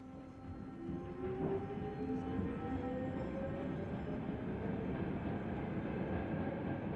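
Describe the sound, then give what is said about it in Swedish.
A subway train that has just started rolling moves along with a heavy, steady rumble, while thin metallic squeals from the wheels on the rails rise and glide above the noise, loud. “Genast efter att jag klivit på började tåget rulla. Först långsamt och tungt. Sen snabbare. Hjulen gnisslade mot rälsen som naglar mot en griffeltavla.”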